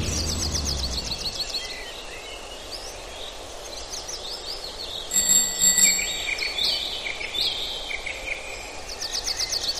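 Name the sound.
small birds chirping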